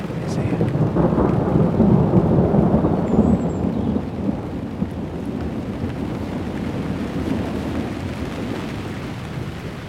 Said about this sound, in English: But listen to this. We missed a lot of this. Here comes the thunder. Well, there was a flash. The thunder.